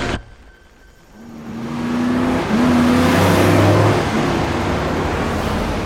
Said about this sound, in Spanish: De pronto, dos camionetas se acercan por la parte de atrás del autobús. Una de ellas, una Ford Lobo verde, le cierra el paso.